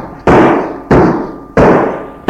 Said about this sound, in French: Il tape du poing sur la porte.